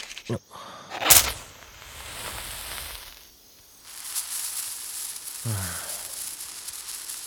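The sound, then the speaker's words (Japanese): A soft, steady sizzle of a small senko hanabi (Japanese sparkler) crackles, with a brief sharp burst early on and faint hissing spitting that grows slightly brighter later; a short voiced sound briefly appears. “なんだか地味だよな、線香花火って。”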